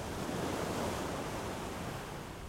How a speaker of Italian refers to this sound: Il mare capriccioso, intanto, passa e va.